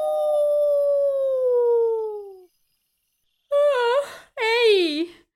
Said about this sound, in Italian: Nella foresta silenziosa e misteriosa, degli ululati si alzano nella notte.